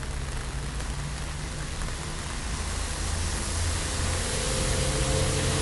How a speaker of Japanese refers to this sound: 雨の日ってのは結構ね、音がリッチでいろんな音が聞こえるのでつい聞いてしまいますね。